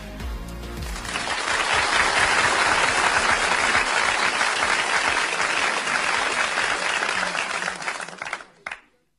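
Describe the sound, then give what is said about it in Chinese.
An audience breaks into sustained applause to welcome a lecturer on braille input, a dense wash of many hands clapping that swells quickly, holds steady for several seconds, then tapers off with a few final claps. “下面我们进入今晚数码天地的第二个板块，数码讲堂，有请海波老师带来盲文输入基础的讲解，掌声有请。”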